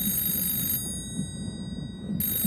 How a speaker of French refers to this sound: Quand les gars dans le nid de pie voient l'iceberg, il est complètement trop tard. Mais ça les empêche pas de lancer l'alerte en sonnant la cloche et en criant dans un téléphone steampunk.